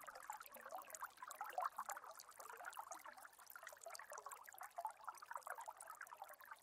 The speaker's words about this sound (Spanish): Comienzas a escuchar a lo lejos un sonido de agua que cae. Te vas acercando más y más. Y de lo alto de una montaña puedes apreciar una cascada.